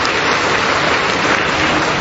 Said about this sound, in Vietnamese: Rồi, chúng ta chào mừng những người có đạo ấy, một tràng pháo tay thưa anh chị em.